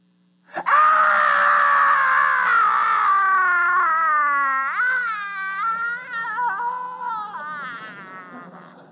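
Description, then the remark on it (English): A voice imitates a young son's blood-curdling scream: one loud, long, piercing wail that holds for several seconds, then wavers and breaks into shaky, sobbing bends before trailing off. “I heard a blood-curdling scream from my second son.”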